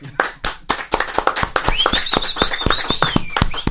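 A small crowd claps in quick, uneven bursts, and partway through a long, high-pitched whistle rises over the applause and holds steady.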